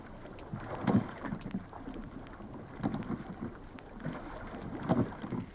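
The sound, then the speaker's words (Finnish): Oars pull through water in a steady rhythm, each stroke a low splashing surge roughly every two seconds, with soft wind noise and lapping water between strokes, as a young woman rows a boat of girls across Kallavesi lake toward Jynkkä in sunshine, an old woman steering. “Tytöt istuvat veneessä matkalla Jynkkään.”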